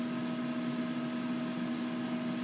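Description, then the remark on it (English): A microwave oven runs while heating up to temperature, with a steady, unbroken electrical hum and a whirring, fan-like hiss that stays level throughout, moderately loud, with no voices. “I'm just waiting for the beeps on microwave and it telling me up to temperature.”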